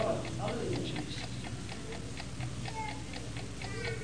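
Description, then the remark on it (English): A clock ticks steadily in an even, brisk rhythm, each tick a crisp click standing out clearly over a low, muffled background rumble. “Yes, it's still ticking.”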